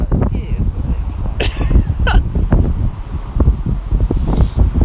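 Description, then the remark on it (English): Low, rumbling wind buffets the microphone in uneven gusts throughout, with a few sharp rustles and brief clicks breaking through, and people talking faintly in the background. “Why is it so windy?”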